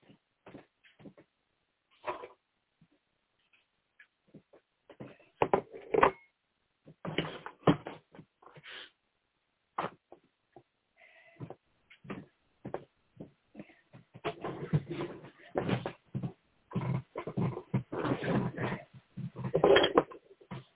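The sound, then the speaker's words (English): Dogs scuffle and snarl in a fight over a bone, with irregular bursts of growling and thumping that start sparse and grow into a louder, almost continuous tussle toward the end. “They're fighting over a bone, and Pat got bit, so hold on a second.”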